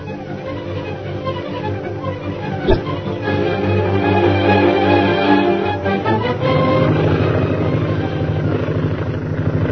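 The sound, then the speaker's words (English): A propeller airplane piloted by Derek Bluger roars in from the hill and circles for a landing. Its engine drones loudly and steadily, the roar swelling and thickening around the midpoint, with no voices over it. “A few hours later, the plane piloted by Derek Bluger roars in from the hill.”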